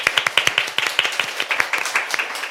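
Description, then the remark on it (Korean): A small studio audience at a radio broadcast applauds after a live song performance, with a steady patter of sharp, distinct hand claps from a handful of people, moderately loud, and no talking over it. “다시 한번 박수 부탁드릴까요?”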